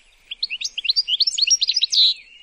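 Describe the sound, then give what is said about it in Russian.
A bird sings a quick, lively song of many short, high chirps and trills in rapid succession, ending in a brighter sustained note, clear with no voices. “Слышишь, запела птица.”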